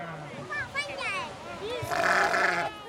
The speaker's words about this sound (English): One group of kids is having fun chasing some sheep and goats.